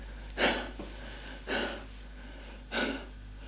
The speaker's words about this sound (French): Essoufflé.